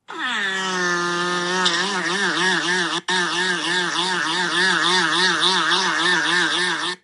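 A sea mammal at Mystic Aquarium in Connecticut blows air and shakes the air-filled ball at the front of its head, making a loud, sustained whining call that rises at first, then warbles up and down steadily, with one brief break partway through.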